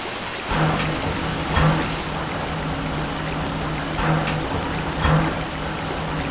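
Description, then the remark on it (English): A steady, heavy rush of water pours from a swung-over spout into a steam locomotive's tender, whose water level is down 6 feet, a continuous roar with a low hum beneath it and a few brief surges, fairly loud. “Check the level in the tender, will ya? Water level's down 6 feet. Swing that spout over.”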